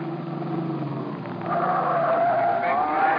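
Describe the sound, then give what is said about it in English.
An Erskine Coupe's engine drones steadily, then surges louder about halfway through as the car speeds off for Baltimore Street, with a high whining squeal of tires over the revving motor. No one speaks. “We piled into a taxi in Red's Erskine Coupe and slammed out for Baltimore Street and Matty's loft.”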